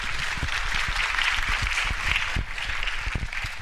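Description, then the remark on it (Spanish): A crowd applauds steadily for the second edition of the Cumbre de Activismo Digital de Lenguas Mayenses (Digital Activism Summit of Mayan Languages), a dense wash of many hands clapping at an even level throughout, with no voices standing out. “Entonces, pues bienvenidas y bienvenidos, y bueno, pues un merecido aplauso para esta segunda edición de la Cumbre de Activismo Digital de Lenguas Mayenses.”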